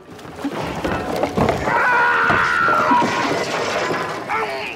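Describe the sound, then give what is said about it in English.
A man, Captain Quint in the film Jaws, lets out a loud, strained scream that holds a high, wavering pitch for a couple of seconds, amid harsh crashing and cracking noise that continues throughout. “You have scary ones, like Captain Quint from Jaws.”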